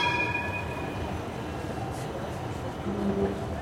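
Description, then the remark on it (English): A line 2 tram rolls past on the left with a steady rumble of wheels on rails, thin high metallic whines fading early and a brief low tone near the end. “meer richting binnengeluid. Tram links.”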